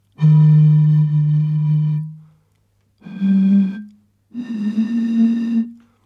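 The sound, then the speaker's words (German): Someone blows across three beer bottles, making three breathy, hollow hoots: a long low one, then two shorter ones each a little higher. The hoots are loud, with no talking. “Ich habe vor mir drei Bierflaschen, die pfeifen auch.”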